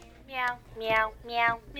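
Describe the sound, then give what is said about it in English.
Three bright, synthetic meow sounds in quick succession from a meowing toy piano, each a rising-and-falling electronic mew, moderately loud with a fourth just beginning. “That is a meowing piano.”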